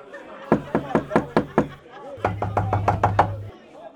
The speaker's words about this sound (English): he had to knock for a long time before Grandmother Mouse heard him